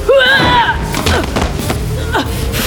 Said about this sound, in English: The instant the words left her mouth, the door burst open and a fierce wind filled the hallway.